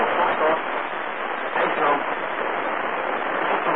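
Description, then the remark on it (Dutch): Steady, band-limited radio hiss with muffled, overlapping voices garbled underneath, sounding like several transmissions bleeding over one another on an amateur radio channel. “Nou, door elkaar heen maar, ik hoor van allerlei signalen, wat niet voor ons bestemd is.”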